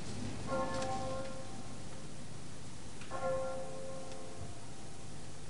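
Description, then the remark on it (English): A clock bell strikes the hour of three; two slow, resonant strokes are heard, each ringing out and fading for a couple of seconds over a steady rain-like hiss. No one speaks. “Count the clock.”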